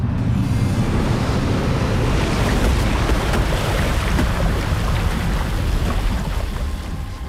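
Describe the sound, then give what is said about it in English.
A loud, sustained rush of churning water, like a crashing wave surge, roars steadily for several seconds as the video game attack Water Apocalypse, used by the foe Hyper Atherillion, before easing slightly at the end. No one speaks. “Foe Hyper Atherillion use water apocalypse.”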